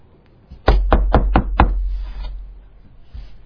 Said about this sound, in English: A man comes to the door and he knocks. I need bread. And the person inside hears him knock and he says, it's late.